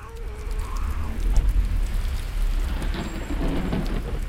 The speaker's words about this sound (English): The grocer and I, we look outside to a cascading rain. Water gushes down in a river toward the Bosphorus.